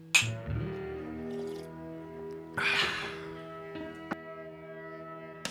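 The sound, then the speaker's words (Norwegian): Glasses clink together in a toast, several bright taps spread over a few seconds, each leaving a faint ringing tone, with no talking. “Skål, Mathias. Skål, Njord.”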